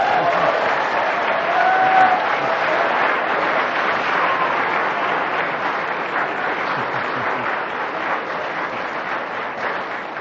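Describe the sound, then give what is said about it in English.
Sustained audience applause fills the whole ten seconds, a dense, steady patter of many hands clapping at an even loudness, with a faint murmur of voices mixed in. The audience is applauding a diatribe. “Fancy applauding that diatribe.”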